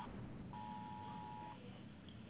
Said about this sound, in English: It's my cell phone going off. It's a warning.